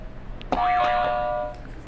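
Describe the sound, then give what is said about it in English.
A single buzzer sound effect rings out for about a second: a steady mid-pitched tone layered with wobbling, warbly overtones, loud against a quiet background, with no talking. “Can you hit another buzzer for me?”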